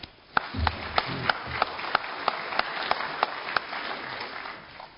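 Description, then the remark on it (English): An audience welcomes the speakers at an event celebrating the 40th anniversary of the Senate committee system, a steady, dense patter of clapping, with one set of sharp, louder claps standing out in a regular rhythm. A faint murmur of voices is briefly audible at the start. “Please make our speakers welcome.”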